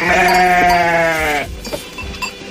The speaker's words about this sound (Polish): posłuchałam tych owiec i jakoś tak od razu mi się cieplej, przyjemniej, radośniej zrobiło.